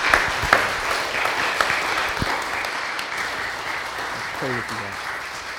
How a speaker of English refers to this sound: Let's give God a applause. What he's done.